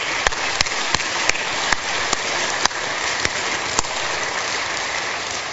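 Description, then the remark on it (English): An audience claps steadily during a sermon in a dense, hissing wash, with a handful of sharper, louder individual claps cutting through every half second or so. No one speaks. “Are you allowed to clap in the middle of a sermon?”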